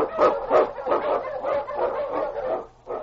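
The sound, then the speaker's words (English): A pack of husky sled dogs, led by the Wonder Dog King and urged on by Sergeant Preston of the Northwest Mounted Police in the Yukon, barks in quick, overlapping bursts, a steady excited chorus of yips and bow-wows at moderate volume, with no talking. “On, you Huskies!”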